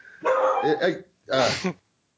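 A dog lets out two drawn-out, fairly loud barks, the first longer and wavering, the second shorter after a brief pause, with no other sounds around them.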